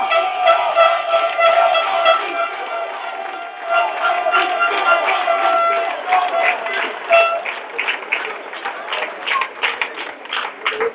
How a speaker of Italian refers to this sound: e i vostri applausi sono molto più eloquenti di mille parole.